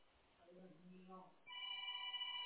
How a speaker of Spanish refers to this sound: Ay, está sonando mi celular, aguanta un momento.